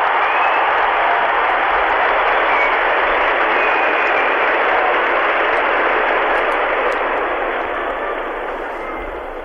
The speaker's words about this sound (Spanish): Escuchen los aplausos de las 150.000 personas congregadas en la Plaza de San Pedro.